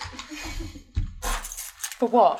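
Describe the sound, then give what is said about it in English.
Keys jangle in a few short, bright metallic bursts as they are handled, followed by a brief voice near the end. “Do you want your phone and keys?”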